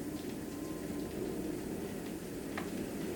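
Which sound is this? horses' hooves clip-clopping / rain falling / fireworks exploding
rain falling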